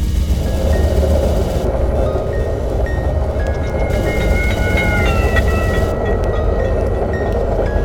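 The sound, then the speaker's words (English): A ringing bell sounds over the steady, loud rumble and clatter of a moving train, its tone sliding lower in pitch as the train carries the listener away. “When you are moving away from the bell, in effect, running away from the sound waves, fewer vibrations reach you during any interval, and the pitch that you hear is lower than it would be if you were not moving.”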